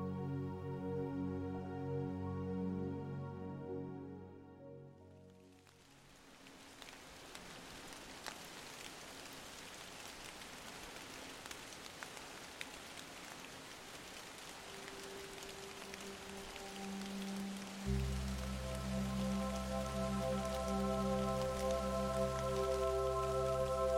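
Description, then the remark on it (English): Steady rain patters on a hard surface in Alaska on a quiet, rainy day, a dense, even hiss with scattered sharper drops, while soft sustained musical tones hum beneath it at the start and swell back near the end. “There's nothing you need to do right now, so just follow the sound of my voice as we head far into the northern part of the world, Alaska to be exact, on a quiet, rainy day.”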